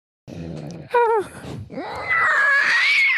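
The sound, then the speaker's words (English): A person imitates a pterodactyl: a low groaning growl, a wavering cry, then a long, loud, high-pitched screech that rises and holds for about a second. “That wasn't me. Well, it was me. It's the pet pterodactyl.”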